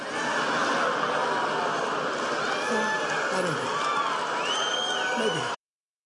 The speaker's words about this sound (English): You hear the clapping? You hear the hooting? You hear the whistling from the maggots? From the people who show up and stand in sub-freezing temperatures to get to go inside some sort of an arena to be bathed in the space cadet glow